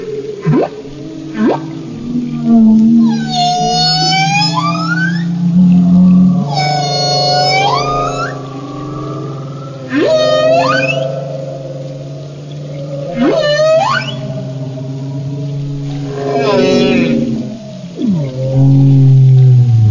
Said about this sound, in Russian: Кит, дорогие мои юнги, это единственное, кроме человека, млекопитающее, которое умеет петь. Хотите послушать песню кита? Слушайте.